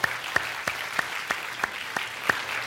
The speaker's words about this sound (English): So happy Father's Day. Let's give an applause to all the fathers here.